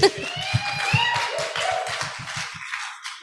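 A small group claps their hands in a quick, steady patter for a couple of seconds, with some cheering voices mixed in, before the clapping fades out.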